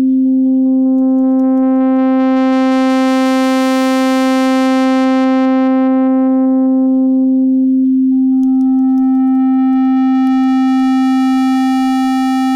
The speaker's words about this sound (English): Okay, so that's exactly what I thought it did. The carrier, the sine wave, is just modulating itself.